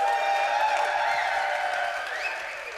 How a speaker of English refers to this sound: Can I get a huge round of applause for all of our speakers who just had to make very adult jokes for things they've never seen before in their lives? I want to hear it. Let's raise this roof.